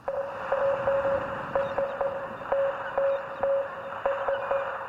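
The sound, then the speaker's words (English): A steady mid-pitched tone keyed on and off in short and long beeps like Morse code, signalling an SOS over a constant hiss of radio static, with no voices. “That sounds like Morse code.”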